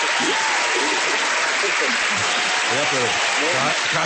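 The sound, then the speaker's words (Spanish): Steady audience applause fills the whole stretch, a dense, loud wash of many hands clapping, with a few voices murmuring and calling out underneath. “Suena más duro estos aplausos.”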